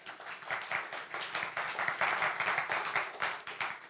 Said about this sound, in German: Ihr wart eine tolle Hilfe. Applaus für euch.